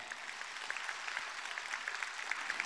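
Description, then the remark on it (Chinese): Sustained audience applause in Sydney welcoming Lu Junhong, a dense steady wash of many hands clapping with scattered sharper claps popping out, fairly loud and even throughout with no voices. “下面让我们用最热烈的掌声恭请尊敬的卢军宏台长。”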